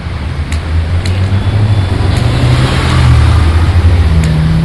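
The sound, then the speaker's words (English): Loud, steady road traffic on Nobel Road, with the low drone of a car engine rising in pitch as it accelerates, over a constant wash of tyre and street noise. “Now we're dropping traffic. This is what I call traffic.”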